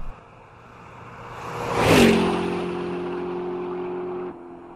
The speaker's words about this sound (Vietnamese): Biết ý, Út dắt xe chị ra đường nổ máy và phóng như bay vào phố đông.